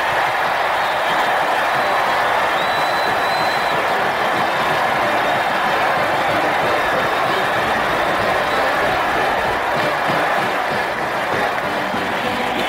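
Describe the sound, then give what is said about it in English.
A huge stadium crowd roars and cheers without a break after Ohio State's kick is good against Michigan, a loud, dense wash of voices that holds steady for the whole stretch with no single voice standing out. “Listen to that crowd.”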